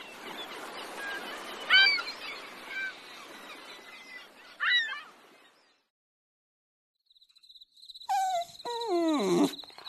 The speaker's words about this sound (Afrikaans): Ek groet die pikkewyn. Ek sal hom seker nie weer sien nie. Onthou, dis 'n koningspikkewyn. Skies, u majesteit.